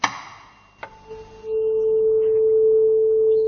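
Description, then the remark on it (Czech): A tuning fork is struck with a couple of sharp taps, then a pure, steady A tone swells in and rings on evenly, unwavering and fairly loud, with no voices. “Co to byl za tón, prosím? Tak to bylo A.”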